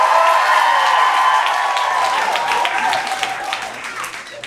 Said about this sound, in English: All right, could I get a round of applause if you're more of a dog person?